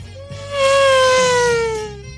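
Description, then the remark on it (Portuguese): A voice imitates a Formula 1 race car with a single loud, sustained high whine lasting over a second, its pitch sliding slowly downward before fading, over a low steady background hum. “Ó, Fórmula 1.”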